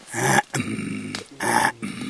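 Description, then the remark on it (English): A series of four low, rough, throaty grunts, the gorilla hello greeting given to gorillas in Congo, each resembling a throat being cleared, with brief pauses between the raspy bursts and no speech. “You've got to say hello, which sounds a little like clearing your throat.”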